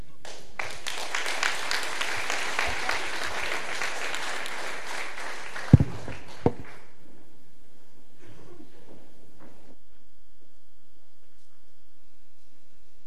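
A crowd at a church service applauds for about six seconds to thank the audience, a dense patter of many hands clapping, followed by a couple of sharp knocks as the clapping dies away into a quiet, reverberant hush.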